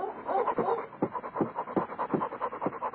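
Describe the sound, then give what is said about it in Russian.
A new sled dog pants hard and fast after pulling hard, out of breath, quick breathy huffs in a steady rhythm, about three per second, with no talking over it. “Так дышит наша новая собачка. Она тянет очень сильно, запыхалась.”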